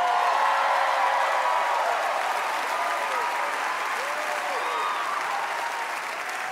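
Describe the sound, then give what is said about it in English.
At a party for Dave Chappelle, a large crowd applauds loudly and steadily for several seconds as Tiffany Haddish introduces herself, a dense wash of clapping with scattered cheers and whoops rising above it, fading only slightly at the end. “This is where you guys should applaud and go crazy.”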